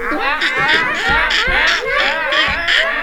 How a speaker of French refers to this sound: Il y avait des singes.